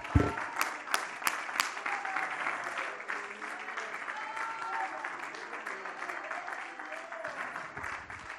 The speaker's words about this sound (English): Break out in their worship. Oh, clap your hands unto the Lord, all ye people.